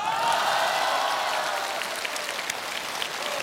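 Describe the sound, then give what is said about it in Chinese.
An audience at a New Year xiangsheng (crosstalk) comedy performance breaks into steady applause for the duo on stage, a dense wash of clapping that holds fairly even throughout, with scattered sharper claps poking through and no voices on top. “怎么开始学会要掌声了呢？”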